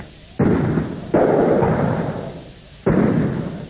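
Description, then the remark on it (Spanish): Three loud, booming shots of police tear gas grenade launchers go off at uneven intervals, each a sharp thump followed by a rumbling, echoing tail that fades before the next. “Los estudiantes lanzan botellas y bombas molotov y la policía contesta con disparos de bombas de gases lacrimógenos.”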